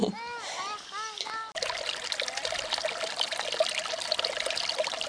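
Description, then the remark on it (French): Water gurgles and trickles steadily through a small irrigation channel built by earlier generations along a mountainside by the young Tarn river. It is fairly loud and runs continuously after a brief opening of high, repeated chirping calls. “Cascade souriante du jeune Tarn, glouglou des béales, vous savez ces petits canaux à flanc de montagne construits par les anciens et même quelques gouttes de pluie.”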